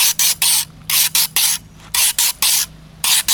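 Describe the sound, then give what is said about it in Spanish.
A voice imitates a chorus of chachalaca (guacharaca) calls, the sound the birds make once they have all gathered together: a quick, uneven run of a dozen or so loud, breathy, hissing rasps, with short gaps between them, and no talking. “Cuando ya se encuentran todas allí, hacen esto.”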